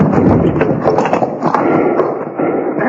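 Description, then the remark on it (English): Horses leaning into their collars strain hard to pull jail bars out of a wall, hooves stamping and clattering amid a continuous loud scraping, grinding rumble, with sharp knocks scattered throughout. “Lean into those collars. Oh, well, what's the matter? Them bars is in there right tight”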